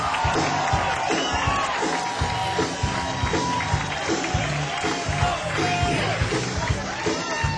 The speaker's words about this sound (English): round of applause for my daughter